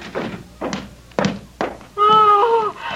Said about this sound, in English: Bolt the door. I was about to. There. It's bolted.